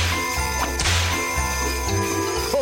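A single sharp whip crack snaps out loud, cutting through a steady bed of sustained, ringing musical tones.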